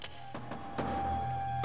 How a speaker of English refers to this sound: He looks through a window slot in a closed door to see Smith tapping on a metal bulkhead.